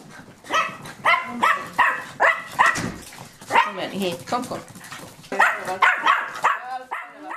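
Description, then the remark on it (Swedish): German spitz (Mittelspitz) dogs, a mother with a recent litter of puppies, bark and yip in quick, high-pitched bursts, mixed with whimpering whines, a busy, uneven series of calls over about seven seconds, with voices talking faintly underneath. “hunden Bella av rasen Mittelspitz eller tysk spets nyligen fått en kull ungar”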